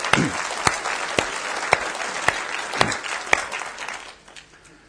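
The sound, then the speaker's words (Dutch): An audience applauds steadily for a few seconds, a dense patter of many hands with a few sharper claps standing out, then the clapping thins and fades away. “Maar een applaus is wel welkom.”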